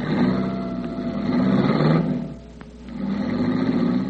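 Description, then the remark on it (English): A car engine starts and roars, revving hard for about two seconds, dropping briefly to a lower idle, then revving up loudly again, with no voices. “He helped her into the car and fumbled with the keys until he was sure Red and Shorty had reached the other car and were ready to follow.”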